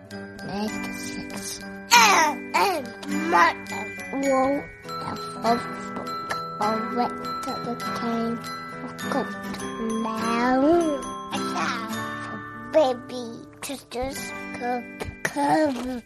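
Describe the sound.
A child shrieks and babbles in the background, the high voice sliding up and down in loud bursts over a steady layer of bright, tinkling ringing tones.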